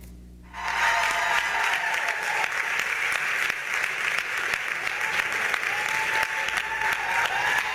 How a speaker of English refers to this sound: When Davis appeared, before she reached the podium, her audience burst into applause and gave her a standing ovation.